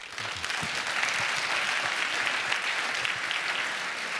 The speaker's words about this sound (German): Einen warmen Applaus bitte und die Bühne gehört euch.